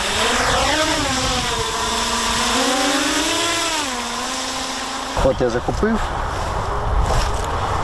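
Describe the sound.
A small self-guided kamikaze drone using machine vision buzzes with a motor whine that sweeps up and down in pitch as it flies toward the crew's cars in a test, loud and steady for several seconds, before a man starts talking over the fading hum.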